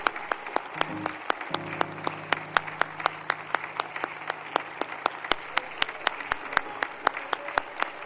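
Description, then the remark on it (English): A church audience claps steadily for several seconds after a baptism, many hands making a dense, lively applause, with a low sustained tone humming faintly beneath it. “This clap is about sins being washed away.”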